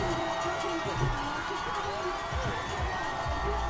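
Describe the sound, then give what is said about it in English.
A huge crowd of about 15,000 people at the bottom of Tremblant screams and cheers for racers in a dense, continuous roar of overlapping voices, staying loud and steady for the whole few seconds without any break. “It was the approximately 15,000 people at the bottom of Tremblant screaming their minds out for the best racers in the world.”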